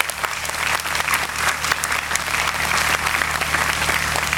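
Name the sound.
loud applause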